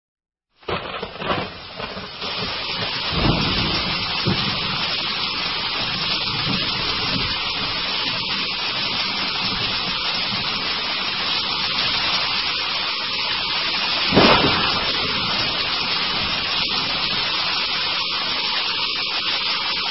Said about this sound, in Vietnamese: Mây đen bỗng từ đâu kéo đến. Một chốc, mưa đổ xuống và kéo dài mãi không ngớt.